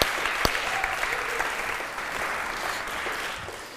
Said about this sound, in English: I would like us just to acknowledge and honour them for the hard work, because, I mean, that was, again, it was kick-ass, wasn't it, this morning? Can we just applaud them and thank them for working so hard?